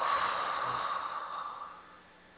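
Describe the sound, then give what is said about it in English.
A long, deep exhale during a breathing exercise, a soft breathy rush that is loudest at first and gradually fades over a couple of seconds, with no talking. “Now exhale.”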